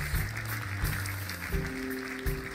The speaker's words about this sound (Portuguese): Bem-vindos a todos, uma salva de palmas para eles, para quem está a assistir em casa também.